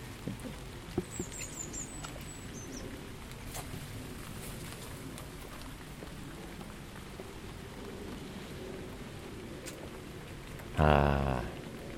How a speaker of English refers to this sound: Bone dry below the canopy of the shed, and it's nice to hear the rain dripping without getting wet.